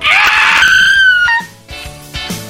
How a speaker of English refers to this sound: Is this where we do our weekly scream? Yes. You ready? One, two, three.